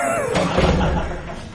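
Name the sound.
door being closed shut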